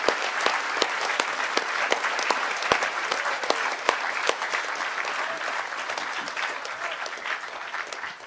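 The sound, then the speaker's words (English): Steady applause from an audience for the people from Hack DC, Hack Toronto, the Hactory, C4, Metalab and Noisebridge who threw the village, many hands clapping in a dense, sustained wash with a few sharper claps standing out, holding at an even level for several seconds without any talking. “Could you give these guys a huge round of applause for throwing a great, great village?”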